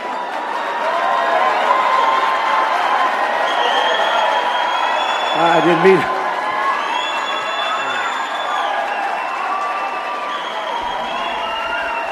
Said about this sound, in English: Now, okay, now they're all cheering because they want him to run.